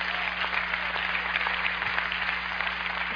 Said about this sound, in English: Clap if you get that revelation.